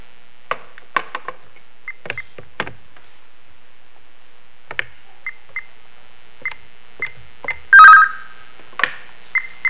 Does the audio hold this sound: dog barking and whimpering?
no